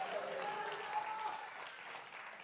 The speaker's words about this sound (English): Would you clap your hands and shout hallelujah? Hallelujah.